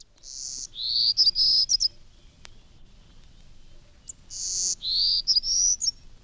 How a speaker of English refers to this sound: The state of Texas is home to a small songbird, a type of bird known as a passerine. More than half of all the birds belong to this group, but the golden-cheeked warbler is only found in Texas. Here's its song.